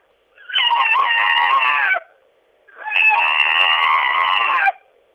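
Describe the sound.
A person imitates an owl with two long, loud hooting cries, each held for about a second and a half with a short pause between them, the voice strained and rich in overtones.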